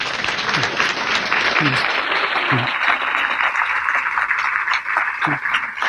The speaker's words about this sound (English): You are clapping for some people in this room. You may or may not know who they are. It's not me.